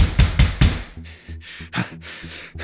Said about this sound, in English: Who the fuck is that? Who in the hell is knocking?